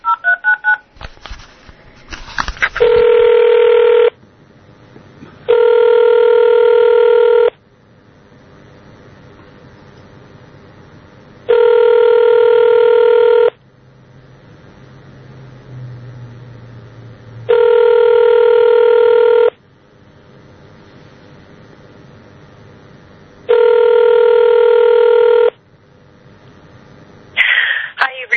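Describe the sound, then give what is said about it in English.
A brief burst of touch-tone dialing of a cell phone number, then a loud electronic phone ring repeating about five times at steady intervals, each ring lasting roughly two seconds with quiet pauses between. “That's her cell phone number. So let's see if I can reach her.”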